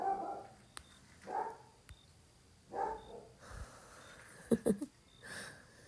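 Guard dogs bark in short, intermittent bursts while guarding a house, a handful of separate barks spaced a second or so apart, moderately quiet, with a quick cluster of sharper yips near the end and no talking.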